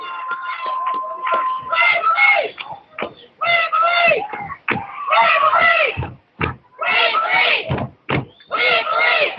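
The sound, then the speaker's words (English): Rifle football fans cheer and chant "We believe" in loud, rhythmic bursts, their voices rising and falling in repeated phrases with short pauses between them. “Rifle fans cheering, "We believe."”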